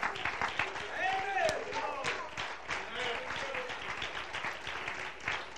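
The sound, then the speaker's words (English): A church audience at a revival service claps their hands together at the preacher's call, in a steady, dense stream of overlapping claps that lasts throughout, with raised voices and exclamations mixed in underneath. “Could you clap your hands?”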